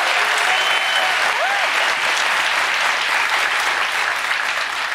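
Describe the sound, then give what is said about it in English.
An audience applauds steadily for about five seconds, a dense, loud wash of clapping with a few faint whoops rising above it before it begins to taper at the end. “I do have one final question for you. Clap.”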